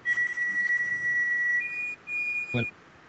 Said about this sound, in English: Well, that sure is weird music. We're going to have to find out about that. Nobody will believe us. Yes, it's a whistling. You know, like outer space.